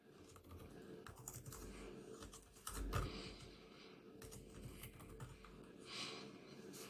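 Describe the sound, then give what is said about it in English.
Quick, irregular clicking of keys on a laptop keyboard as someone searches for arenas in Cleveland, steady, with a few slightly louder taps mixed into the continuous patter. “And somehow I can't even figure out how to type words on a laptop.”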